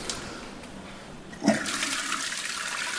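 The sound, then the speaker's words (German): After a soft hiss, a brief clunk sounds as the tap of a lauter tun is opened to begin lautering in beer brewing, then cloudy wort gushes out in a steady, rushing flow that continues to the end, with no talking. “Dann fängt man mit dem Läuterprozess an. Und das machen wir jetzt mal. Dann drehen wir jetzt mal den Hahn auf.”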